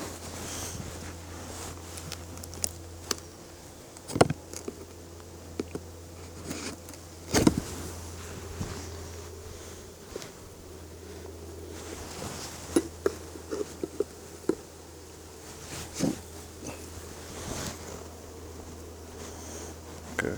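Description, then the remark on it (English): Honeybees buzz and fan at a hive entrance in a steady, low, droning hum, with scattered soft clicks and taps as the hive's entrance guard is pulled out. No one speaks. “What do you even think, by the way the bees look? There are pines in the air, or maybe they're trying to fan.”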